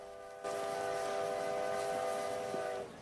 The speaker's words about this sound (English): Trains!